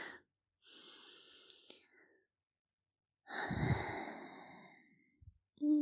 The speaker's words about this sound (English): Did you wash your hair? Oh, you did? Can I have a sniff, please? Please, can I have one? Oh, thank you.